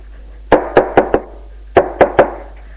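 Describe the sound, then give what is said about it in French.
Knocking on a door: a quick run of four sharp, solid raps, a short pause, then three more, each crisp and fairly loud over near silence, with no voices. “Un après-midi, il entend frapper à la porte.”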